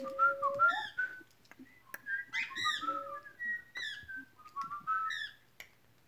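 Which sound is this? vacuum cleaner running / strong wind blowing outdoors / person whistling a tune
person whistling a tune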